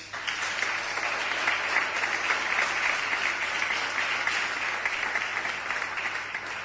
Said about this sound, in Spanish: Lo dicho, enhorabuena. Un fuerte aplauso, por favor.